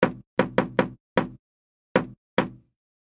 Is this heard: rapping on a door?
yes